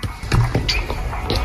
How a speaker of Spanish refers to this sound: Uy, espera que están golpeando la puerta. ¡Voy! ¡Un momento!